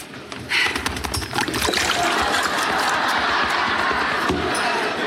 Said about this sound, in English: As he's trying to drink water, so inevitably he's sort of just splashing around everywhere in the bath.